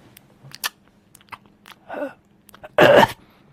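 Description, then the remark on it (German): A voice imitates the mouth noises of YouTube ASMR videos: a series of soft clicks and wet lip smacks, a couple of breathy puffs, then a louder, longer exhaled breath near the end, with no talking. “Aber es gibt wohl auf YouTube so eine Liste an Videos von Frauen, die ganz, ganz nah an einem super High-Def-Mikrofon sitzen und die ganze Zeit so leichte Hauch- und Schmatzgeräusche machen. Um das mal zu simulieren.”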